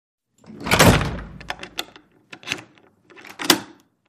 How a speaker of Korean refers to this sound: 나는 그녀가 문고리를 걸어 잠그는 소리를 듣는다. 나는 자물통이 찰칵 채워지는 소리를 듣는다.